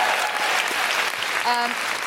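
An audience at a live show applauds with steady, dense clapping that holds at an even level for about two seconds, and a short pitched note briefly rings out over it toward the end.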